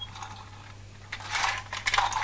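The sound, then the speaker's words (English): A small toy clicks and rattles quietly, a quick run of light mechanical ticks that grows a little busier toward the end, with no talking. “It still makes a bit of a noise, but it's only a clicking noise, isn't it? It's not a loud sound.”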